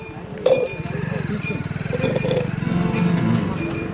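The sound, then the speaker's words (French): A motorcycle engine putters steadily as it carries a rider on the back along a small canal on a hot day, its low rhythmic throb running the whole time, with a sharp clink near the start and faint background voices. “je suis monté à l'arrière de la moto et on longe un petit canal”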